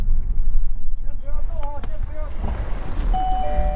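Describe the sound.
Low rumbling interior noise of a shuttle bus parked at a quarantine hotel in China with its engine cut, and faint murmuring voices of waiting passengers. Near the end a steady electronic seatbelt reminder tone sounds on repeat and holds on.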